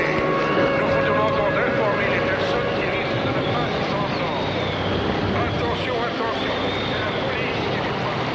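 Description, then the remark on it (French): A helicopter drones loudly and steadily overhead, flying over a flooded area to pick up people and take them to hills. Its engine whine and rotor noise fill the air for the whole stretch, with indistinct voices mixed in beneath. “Des hélicoptères viennent les chercher pour les déposer sur des collines où l'on a créé des baraquements de fortune.”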